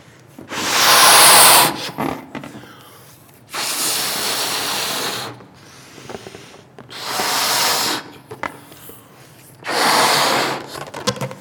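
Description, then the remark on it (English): Air rushes out of a balloon in four separate breathy hisses, each lasting over a second, with short quiet pauses between them and no talking. “And just like this balloon, when you give encouragement, you don't know how far it's going to go when you give encouragement.”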